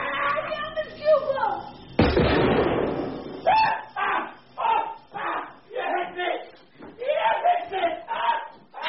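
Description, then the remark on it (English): A man lets out a harsh, strained yell for about two seconds as he charges, then a loud crashing thud bursts in, followed by a voice talking in short phrases. “She's still turning, him screaming, starting to run.”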